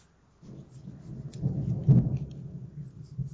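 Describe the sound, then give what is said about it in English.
A low, rolling rumble of thunder from a coming storm builds from near silence, swells with a brief crackling peak in the middle, then keeps grumbling steadily; fairly soft, with no voices. “Oh, is that thunder? Yes, there will be a storm here.”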